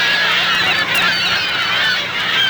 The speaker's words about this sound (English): California seagulls swoop in Tooele County, Utah.